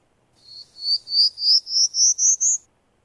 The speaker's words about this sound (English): And well, let's listen to one. This is short, a prairie warbler.